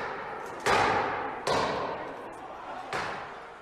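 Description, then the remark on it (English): Three heavy, booming impacts land at irregular intervals, each ringing out with a long echoing decay, as rioters hammer at the exterior doors of the Capitol, heard from inside the building, over a murmur of crowd noise. “And that's the sound from inside the Capitol as they hammer at the exterior doors.”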